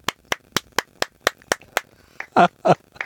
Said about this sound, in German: Und mit einem minutenlangen Klatschkonzert verabschiede ich uns jetzt in die nächste Pause.